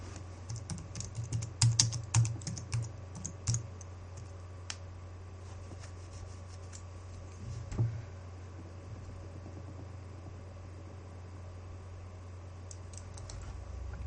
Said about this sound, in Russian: Так, у нас печатают 3 человека.